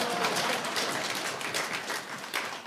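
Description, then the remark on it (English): An audience breaks into applause, a dense, steady wash of many hands clapping that holds at an even level for a few seconds without any voices over it. “You already clapped that. You need to do it again now.”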